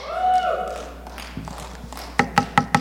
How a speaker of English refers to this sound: Hello, hello? Anybody home? Behold, I stand at the door, church. I'm knocking.